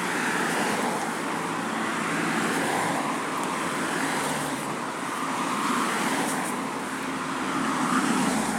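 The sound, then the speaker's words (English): A car comes slowly along a road from the other way, at a spot with no proper crossing, its steady engine and tyre rumble filling the scene with broad traffic noise that swells slightly near the end as it draws closer. No one speaks. “There's a car coming the other way.”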